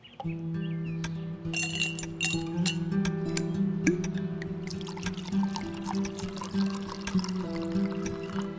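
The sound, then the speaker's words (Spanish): Rum is poured into a glass, with several bright clinks of glass early on over a steady low hum, moderately loud, no voices. “El resto del día se fue diluyendo en ron, junto con mis recuerdos y mis pesadillas.”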